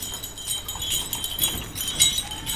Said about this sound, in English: Donkey carts are the main transport here. They're carrying farmers out of Ségou to their farms, where they'll harvest important crops that grow not on the ground, but on trees.